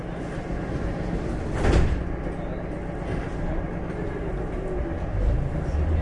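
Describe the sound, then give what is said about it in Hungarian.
Train sliding doors close with a single brief whoosh and thump, set against the steady low rumble of a carriage interior. No one speaks. “az ajtón záródnak.”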